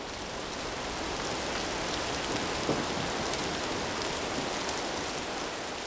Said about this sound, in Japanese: 雨、降ってきちゃったね。君がすぐ気づいてくれたから濡れずに済んだよ。